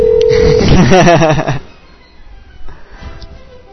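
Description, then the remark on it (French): A telephone call placed live on a radio show: a steady telephone tone sounds for about half a second, then a voice speaks briefly over the line before the call audio drops to a faint, muffled hum with a few soft sounds. “C'est où c'est que t'appelles, toi, là?”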